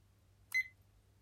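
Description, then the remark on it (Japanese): A single short electronic beep from a timer being started, bright and clear, sounding once near the middle against a faint low hum, with no voices present. “今タイマーをスタートさせたので、首を触っていきます。”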